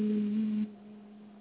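A single steady, low hummed tone held on one pitch, fairly soft, hummed on the exhale during a chakra meditation focused on the throat chakra, dropping to a quieter lingering drone about halfway through. No one speaks.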